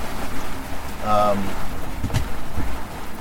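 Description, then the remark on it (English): A loose, empty diesel jerry can bangs on a boat's foredeck during a storm, giving a brief ringing clatter and then a couple of sharp hollow knocks over steady rain and wind noise. “That's sound, in fact, was an empty diesel jerry can, which was just loose on my foredeck”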